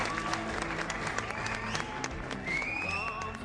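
An audience applauds steadily, a dense wash of many hands clapping at an even loudness, with a rising whistle cutting through near the end.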